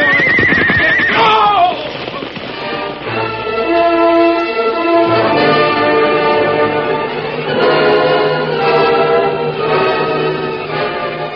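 A horse gives a loud whinny at the start, then a dense, sustained tonal backdrop fills the rest; faint galloping hoofbeats, as a white stallion and a paint horse carry their riders along the floor of Rainbow Valley, are hard to pick out.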